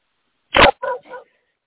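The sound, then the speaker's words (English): A dog named Amadeus gives three quick barks in a row, the first loud and harsh, the next two more tonal and growing fainter. “Yes, Amadeus just barked for Hatter.”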